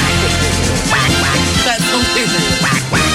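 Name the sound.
duck quacking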